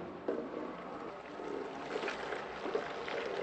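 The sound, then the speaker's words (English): A steady stream of strong, sweet Indonesian-style coffee splashes from a pot raised several feet above tiny glass cups at a neighborhood cafe in Aceh, Indonesia, a continuous pouring rush with faint clinks, lasting several seconds with no one talking. “He raises the pot several feet above tiny glass cups and pours until they are full.”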